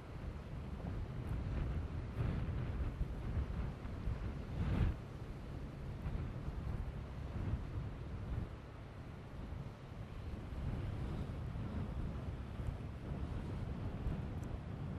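A small boat's engine drones as a steady low rumble across open water at the entrance to Milford Haven, mixed with gusty wind buffeting the microphone and faint wash of waves; no one speaks.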